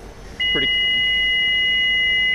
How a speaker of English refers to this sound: You will hear different tones. That's all normal for the plane.